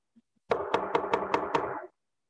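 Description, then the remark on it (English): Six quick, evenly spaced loud knocks on a door, each rap leaving a hollow resonant ring that carries between the hits before fading out. No one speaks. “When somebody's knocking at the door, what's that mean?”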